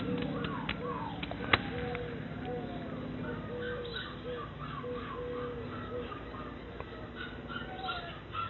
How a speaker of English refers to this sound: Do you think them pups are very happy? Yeah, they start barking and they say, I'm hungry, we want the fresh fish.